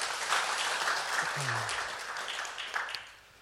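A crowd claps steadily, a dense wash of many hands that holds strong for about three seconds before tapering off, with a brief low murmur partway through.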